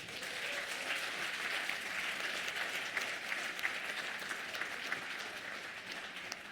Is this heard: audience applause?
yes